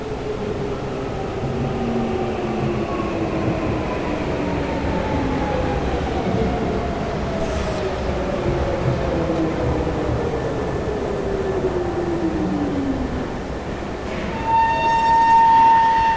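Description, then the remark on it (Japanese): An electric train pulls into platform 1 of a railway station in Japan, its steady rumble joined by an electric motor whine that slides down in pitch as it slows, ending in a sustained high squeal. “まもなく1番線に電車が参ります。危険ですから白線の内側までお下がりください。”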